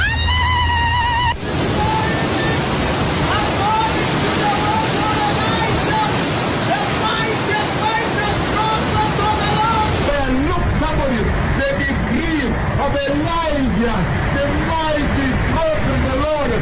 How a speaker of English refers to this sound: Now here in Timaroa Koipatek, it is raining heavily.It is raining heavily. The rain of Elijah. The rain of Elijah. It is raining.